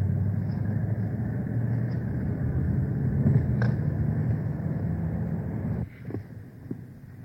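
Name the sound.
car interior driving rumble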